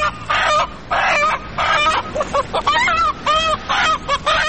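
A chicken clucks repeatedly in loud bursts, a run of rapid, bright squawking calls with short pauses between them and no talking over it.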